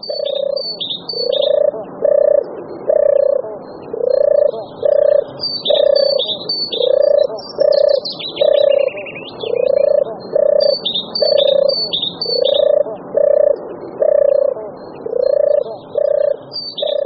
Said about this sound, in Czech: Vraťme se však k příjemně znějícímu hlasu hrdličky, který je slyšet, bohužel, i v naší přírodě stále vzácně.